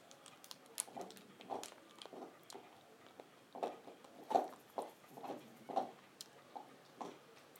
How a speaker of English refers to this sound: Munching my way through this.